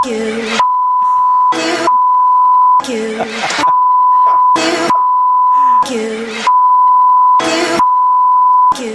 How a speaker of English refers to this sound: I think that story will sound something like beep, beep, beep, beep, beep.